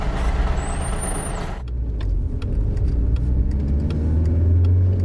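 A loud burst of air brake hiss with a brief high squeal, then a bus engine rumbles and builds as the vehicle pulls away, with faint rattles and clicks over the low drone.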